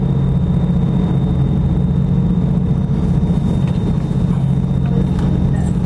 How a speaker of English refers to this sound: As we kicked on our diesel generator, you see it says the generator's online. We can put the boat ahead, and now we're running on our diesel generator.